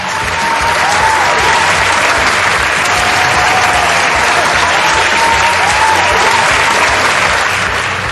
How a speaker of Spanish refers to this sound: Un gran aplauso para él.